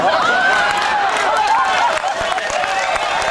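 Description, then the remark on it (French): Steady, loud audience applause fills the whole stretch, a dense patter of many hands clapping, with voices calling out and chattering over it. “Hey, le monde applaudit comme des Mongols.”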